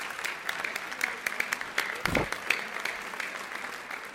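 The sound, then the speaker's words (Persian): Participants at a networking session applaud themselves, clapping steadily for a few seconds, a dense patter of many hands with sharp individual claps standing out, at a moderate level with no talking over it. “خب مرسی، خودتون تشویق کنین لطفا، درست تشویق کنین.”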